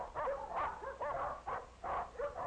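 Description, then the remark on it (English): Several dogs in cages at a dog pound bark and whimper over one another in a steady, overlapping chorus, with short yelps and whines recurring every half second or so at moderate volume. “It's the dog pound, where the dog catcher keeps lost dogs until their owners come.”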